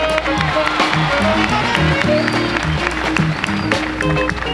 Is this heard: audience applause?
yes